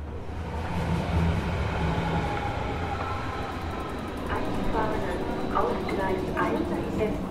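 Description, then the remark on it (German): A commuter S-Bahn train rumbles steadily through Pankow S-Bahn station in Berlin on a sunny, windy May afternoon, with a broad mechanical roar and faint whining tones, while indistinct voices murmur in the background throughout. “S-Bahnhof Pankow, ein sonniger, windiger Nachmittag im Mai.”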